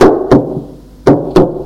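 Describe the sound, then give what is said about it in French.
Four sharp knocks on the wooden door of a room where someone is studying, given as two quick pairs with a short pause between them, fairly loud with no voices. “Après-midi, qu'il est dans sa chambre à étudier, le frappe à la porte.”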